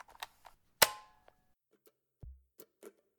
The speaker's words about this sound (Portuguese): Dá aquela batidinha. Pro áudio não ficar zoado. 1, 2, 3 e... Gravando!